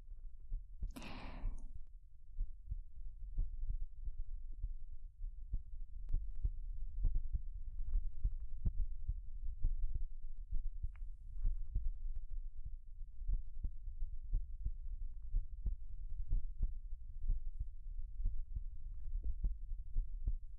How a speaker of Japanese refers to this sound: 私の心臓も、ドクン、ドクン。脈打ってるでしょ。